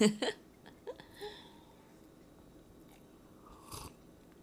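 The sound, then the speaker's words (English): A few short, wet slurping sips of Colombian coffee from Counterculture into a microphone, fairly quiet, with a loud one at the start and another a few seconds later, separated by near-silence. “Let's drink this Colombian coffee from Counterculture. I know you all missed us, our slurping sounds into yeah. the microphone.”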